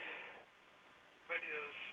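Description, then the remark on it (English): A radio plays in the background of a phone line: thin, band-limited broadcast voices, fairly faint at first, then swelling louder after a brief lull. “You need to turn your radio down.”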